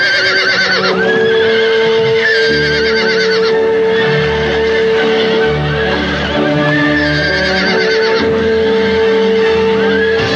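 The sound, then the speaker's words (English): Horses neigh and whinny loudly over a busy, layered musical backdrop, with several shrill, wavering calls rising and falling across the whole stretch, prominent throughout, as synchronized horse swimming is introduced as a demonstration sport. “And for the first time in the history of the Barnyard Olympics, witness the introduction of synchronized horse swimming as a demonstration sport.”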